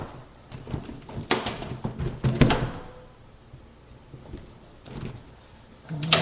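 A heavy elevator main door in a house with three floors is pulled open with a few sharp metallic clunks and a short rolling scrape, then a quieter pause before another loud clank at the end, with no talking.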